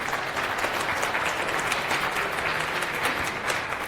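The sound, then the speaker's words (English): Steady applause from an audience at the end of a conference talk fills the whole stretch, a dense wash of many hands clapping at once with no pauses or voices standing out. “Give me a round of applause.”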